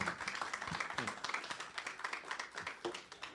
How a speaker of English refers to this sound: Let's give him a round of applause as well, or thanks.